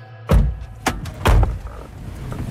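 Two heavy, muffled car door thunks heard from inside a car in a neighbourhood of Corbeil-Essonne, about a second apart, with a lighter knock between them and a low interior rumble throughout.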